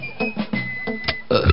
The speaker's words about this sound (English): Burping lunch tray.